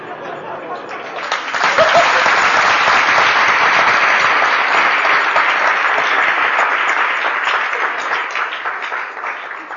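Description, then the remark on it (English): Loud, sustained applause from a large audience, a dense crackle of many hands clapping that swells in after a second and holds steady, tapering slightly toward the end. “But everyone clapped much louder for Krishna.”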